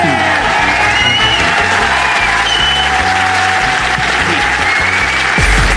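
audience applause and cheering

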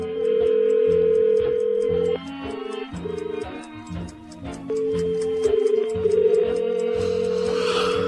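telephone ringing tone

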